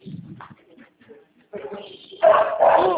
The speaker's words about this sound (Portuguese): Lá vai essa porcaria latir. Ô, cachorro chato.